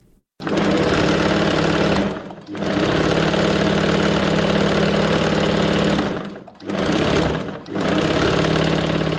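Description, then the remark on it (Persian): A 40-year-old tailor's sewing machine in Qala-e-Zaman Khan, Kabul, runs in long, steady mechanical bursts with a dense whirring hum, pausing briefly twice before starting up again; no one speaks. “صدای ماشین خیاطی”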